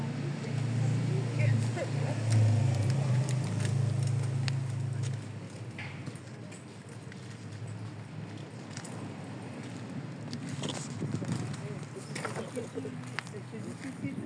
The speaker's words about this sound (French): Parce qu'on entend beaucoup de trafic. Ouais. Il y a beaucoup de voitures.